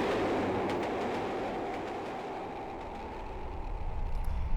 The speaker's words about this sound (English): I've now caught the train from Reading towards London